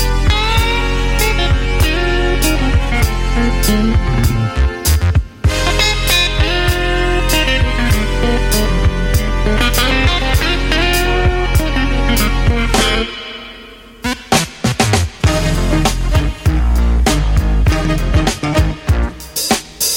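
A blues recording plays on the KZSU radio show Blues of the Feeling, loud and steady, with a driving beat, bass and guitar filling the mix, a brief break near the middle before the full band returns.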